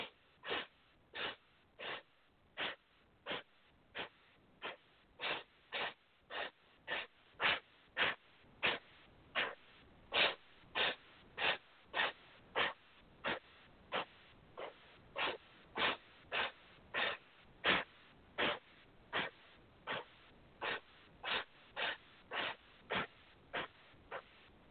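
Sharp, rhythmic breath sniffs repeat steadily for about twenty-five seconds in a breathing exercise done with palms pressed together. Short bursts of four sniffs in are each followed by an exhale with the navel drawn back toward the spine. No talking over them.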